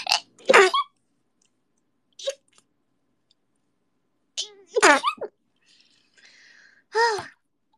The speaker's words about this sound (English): Wait, I need to sneeze.